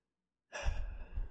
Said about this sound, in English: You're legit asleep. I have heard of this happening before. He's not as well trained as we are. If you listen carefully, we might be able to hear the snoring. Kind of hear the breathing.